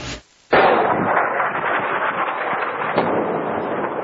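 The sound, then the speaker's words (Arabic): A loud explosion from Israeli aircraft bombing Hamas sites in the Gaza Strip bursts in after a brief hush, leaving a long roaring, crackling rumble, with a second heavy thud near the end. No one speaks. “على وقع هذه الانفجارات استيقظ الفلسطينيون في قطاع غزة. طائرات إسرائيلية قصفت مواقع تابعة لحماس ردا على قيام مسلحين بإطلاق قذائف على بلدات إسرائيلية مجاورة للقطاع، كما قال الجيش الإسرائيلي.”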